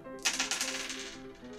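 A die is rolled again after falling off, for an acrobatics roll in a game, clattering across a hard surface in a quick burst of sharp, rattling clicks that tumble rapidly for about a second before settling, with a faint steady hum underneath.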